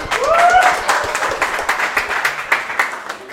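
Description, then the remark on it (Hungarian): An audience breaks into dense, steady applause, many hands clapping at once, with a rising whoop or whistle at the start before the clapping gradually thins out. “Tapsot ide.”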